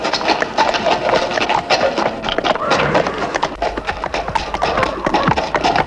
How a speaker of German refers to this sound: Ich stieg aufs Pferd und ritt fort.